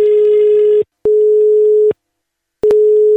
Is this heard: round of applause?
no